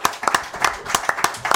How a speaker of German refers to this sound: Da ist sie. Hey. Applaus!